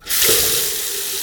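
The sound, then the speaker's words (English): A household faucet turns on abruptly and runs steadily, a fairly loud rushing hiss of water with a faint pipe-like tone underneath, continuing without pause. “This week, we drop in on an event where people line up to talk about their household water faucets.”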